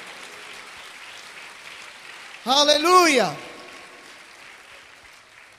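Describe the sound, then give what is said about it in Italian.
An audience applauds to bless the name of Jesus in a steady, dense patter of clapping throughout, while a single voice rings out briefly above it partway through before the clapping continues on its own. “Vogliamo applaudire e benedire il nome di Gesù.”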